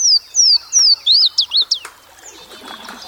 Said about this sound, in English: In the springtime, it's just a marvelous place to drift down the river in a canoe and early in the morning and listen to the bird sounds.